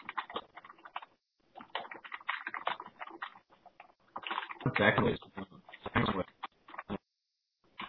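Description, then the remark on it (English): Rapid, irregular keyboard clicks patter along beneath muffled talking over a call connection, with a denser burst of typing partway through before things briefly go quiet. “Sounds like someone's typing.”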